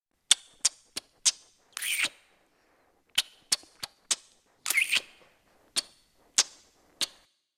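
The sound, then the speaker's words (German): Loud kissing smacks tapped out as a rhythm: quick sharp pecks separated by a longer drawn-out smooch, the pattern repeating, then a few final pecks, with no talking. “Ja, habt ihr euch jetzt den Knutschrhythmus gemerkt? Wahrscheinlich nicht. Und deswegen hören wir uns nochmal an.”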